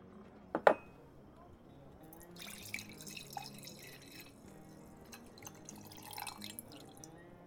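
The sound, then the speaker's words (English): A brief clink at the start, then drinking water trickles and splashes steadily into a glass for several seconds as it is poured, moderately quiet. “But I can tell you've been riding, so before I pour you any more, I think you could use a tall wash of water to drink and to bathe, but I only offer one of them services here.”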